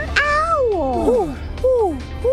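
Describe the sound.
A person imitates a cat, giving two drawn-out meows with falling pitch, fairly loud, with a brief pause between them and a third just beginning at the end.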